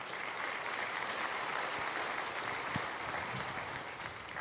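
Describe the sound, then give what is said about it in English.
An audience claps steadily throughout in response to a speaker urging listeners not to abandon their marriage, a dense, even wash of many hands that holds at a constant level without rising or fading, with no voices standing out. “The people who are abandoning their marriage didn't clap for that.”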